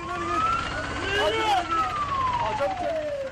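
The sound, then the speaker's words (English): An ambulance siren wails loudly as the vehicle rushes by in Turkey carrying dead and injured from a PKK attack, its tone climbing and then sliding lower as it passes, over busy street noise and murmuring voices. “Ambulances rushing the dead and injured from the latest PKK attack.”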